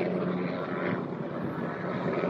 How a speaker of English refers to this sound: I think that might be Air Force or whatever, Marine One. I feel like that's the Marine One helicopter that you hear.